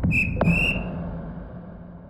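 A single shrill, sharp whistle blast rings out for about half a second, then fades away over a low, rumbling background noise.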